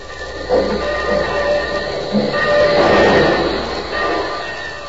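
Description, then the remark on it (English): A train rolls slowly into Union Station with a steady mechanical rumble, squealing brakes and metallic screeches rising and falling over the noise, fairly loud throughout. “But first to the station. The train's just pulling in.”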